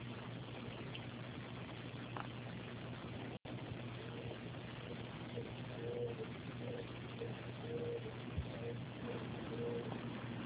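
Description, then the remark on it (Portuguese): A series of soft, low hooting calls from an owl repeats at a steady pace, set against a constant low mechanical hum with no one speaking. “Quem é essa coruja que tá cantando?”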